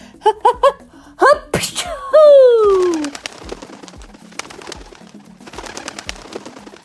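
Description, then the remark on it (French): A few quick chirps lead into a loud, sudden sneeze from a giraffe, then a long descending squawk-like whistle slides down as a bird preening above the giraffe's head is flung off a telephone wire, followed by softer clattering rustles. “À chaque éternuement de la girafe, l'oiseau est éjecté au fil téléphonique.”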